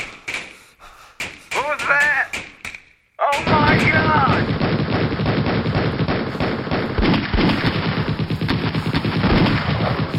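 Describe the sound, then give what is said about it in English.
Sharp bursts of gunfire crack out among troops' shouting voices, then erupt into a dense, relentless barrage of rapid shots that keeps going loudly to the end, with yells still rising through it, as the troops fire into the encroaching night. “Shouts from the troops as they blast their way into the encroaching night.”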